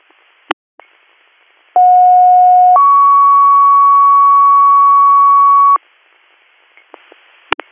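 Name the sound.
fire dispatch alert tones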